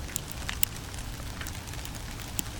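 Scattered sharp ticks and taps of freezing rain ice pellets striking a taut grill cover outdoors, irregular, over a steady low rumble of outdoor background noise.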